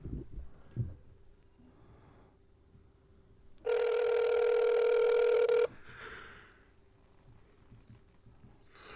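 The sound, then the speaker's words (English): A single long ringback tone on an outgoing phone call, a steady buzzy hum lasting about two seconds and much louder than the faint background rustle and hiss before and after it. “I'm going to call him.”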